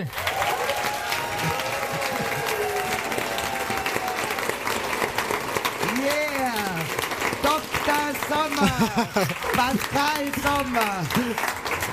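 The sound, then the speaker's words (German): Sustained applause from a large audience at a live Radio Rabella Knisterkiste show on the big stage, steady and loud throughout, with voices talking and calling out over the clapping. “Darf ich bitte um einen großen Applaus bitten?”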